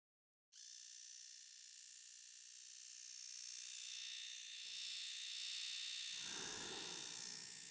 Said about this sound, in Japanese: それでは、シェーバーで産毛処理をしていきますね。失礼します。